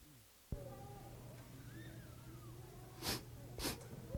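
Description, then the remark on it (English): An audience sniffling and coughing over a low hum, with two short, sharp coughs close together near the end. “And we're going to spend, after the kids follow the flag, give you a chance to sniffle and cough.”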